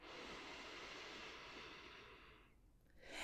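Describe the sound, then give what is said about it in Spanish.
A long, slow inhale imitating the sound of ocean waves, drawn in with a broad airy hiss that swells and fades like surf, then a fresh rush of air begins at the end; steady, and without talking. “Mira cómo vienen y van las olas. Y con tu respiración, intenta imitar el sonido. Inhala.”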